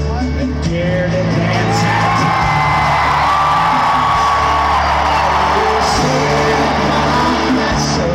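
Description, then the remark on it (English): A big, record-sized Saturday night concert crowd cheers loudly and without pause as an American flag is brought up on stage, a dense roar of voices with scattered whoops and shouts rising above it for the whole stretch. “And at one moment, he motions for someone in the crowd to bring up this American flag and listen to this crowd.”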